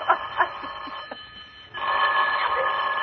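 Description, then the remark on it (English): A telephone bell starts ringing partway through with a loud, sustained metallic trill, alone, after a few softer scattered clicks and tones. “Oh, let it ring. Go on, ring.”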